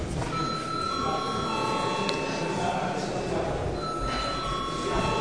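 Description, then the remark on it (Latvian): A parliament session bell, called for by the presiding chair after the agenda of an extraordinary sitting is finished, rings steadily for several seconds, a sustained high, tonal ring over a constant murmur of people talking in the chamber. “Lūdzu zvanu.”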